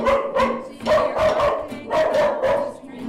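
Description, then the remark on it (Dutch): Maartje's dog barks repeatedly in a quick, steady series of sharp, fairly loud barks, with no other sounds around them. “De hond van Maartje blaft nog één keer.”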